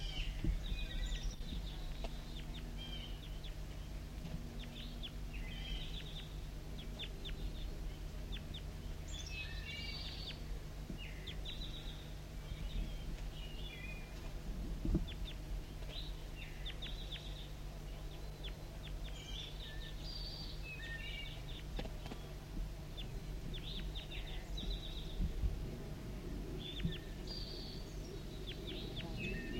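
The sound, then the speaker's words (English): Wild birds give close contact calls from a branch about 15 meters overhead, recorded at 10:17 a.m., in short, high chirps and trills scattered throughout, over a steady low hum and rustling background, with no voices. “Recording of birds right above me in a branch about 15 meters above the surface.”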